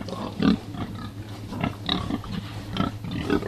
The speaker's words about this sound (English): who want to see pigs happily rooting around in the hay rather than stuck in concrete cages.